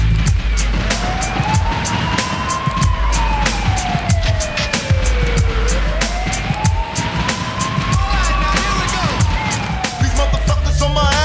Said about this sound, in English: Is it a bust? I hear the sirens, run for cover.